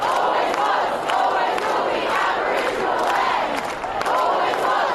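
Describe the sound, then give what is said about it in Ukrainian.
A large protest crowd of about 8,000 people in Sydney, Australia chants in unison "Always was, always will be Aboriginal land", a loud, steady wall of many voices rising and falling in rhythmic phrases that repeat every second or so, with no pauses throughout. “Натовп скандує: «Завжди був, завжди буде земля аборигенів».”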